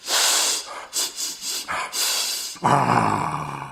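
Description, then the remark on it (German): A run of quick, breathy sniffs in an uneven rhythm as someone sniffs to find where another is, one long inhale followed by several short snuffles, then a low voiced hum carries on after them. “Nun, wenn du keine Antwort gibst, dann muss ich eben schnuppern, wo du bist.”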